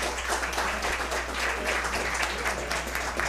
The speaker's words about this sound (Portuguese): Convidamos então o nosso servidor Érico para passar aqui à frente e receber o aplauso.